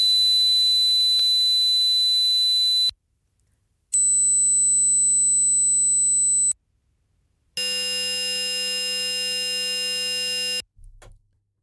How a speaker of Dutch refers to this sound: Om te horen wat voor soort geluid je nou precies hoort. Dus we laten even wat toontjes horen. En dan moet jij zeggen welk geluid je het meest overeenkomt met wat jij hoort.